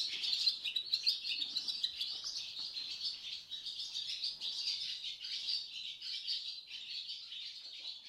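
Swallows twitter continuously outdoors, a dense, high-pitched stream of chirps and squeaks at a steady moderate level, with no clear clucking beneath and no voices.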